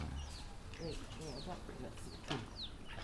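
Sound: chickens clucking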